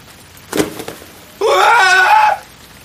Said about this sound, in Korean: 녀석이 괴상한 비명을 지르며 주저앉았다.